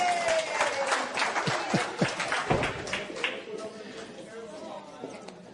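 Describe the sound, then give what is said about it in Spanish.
An audience breaks into steady applause, a dense crackle of many hands clapping at once that holds fairly loud for several seconds before thinning slightly toward the end. “Ok, un aplauso a nuestro Hulk.”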